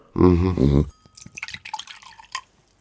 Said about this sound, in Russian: Я еще налью.